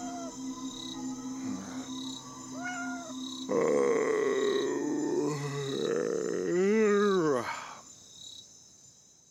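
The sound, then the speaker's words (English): A cat lets out a few drawn-out, wavering meows, the last one loud, over a steady background of chirping crickets at night. “Meow. Oh, God damn it, cat. I'm trying to sleep. Be quiet.”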